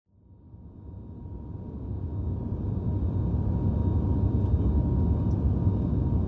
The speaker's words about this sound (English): the plane is landing so fast.